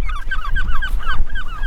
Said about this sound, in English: Hi guys. The teenage seagulls are out for flight training this morning. They are, yeah.